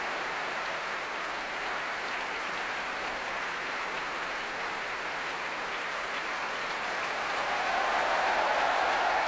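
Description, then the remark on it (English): The Royal Albert Hall audience applauds steadily after a Requiem, cheering the Choir of the Enlightenment as Marin Alsop, her soloists and the Orchestra of the Age of Enlightenment take bows: a dense wash of clapping that swells slightly louder near the end, with a faint cheer rising through it and no one speaking. “A huge cheer going around the Royal Albert Hall for the Choir of the Enlightenment.”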